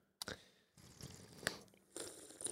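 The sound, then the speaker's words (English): Someone chewing food, with crisp, crunchy bites and wet squishy mouth sounds in a few irregular bursts, fairly loud, with no talking. “Sorry to everyone in advance who complains about the sounds. The ASMR food sounds.”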